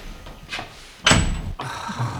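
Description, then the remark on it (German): A heavy door without a lock slams shut with a loud thud, preceded by a softer rattle of the handle and followed by a low lingering rumble. “Die Tür hat kein Schloss, hier kommen wir nicht raus!”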